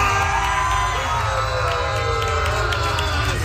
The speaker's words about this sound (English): Why are we cheering? We should be booing.